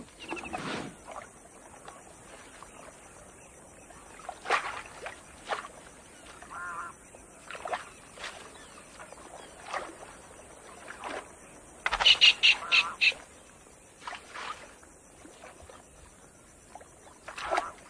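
Rhinoceroses and buffalo wade and feed on water hyacinth in shallow water, with irregular sloshing splashes, a cluster of louder splashes near the end, and occasional honking birds in the background.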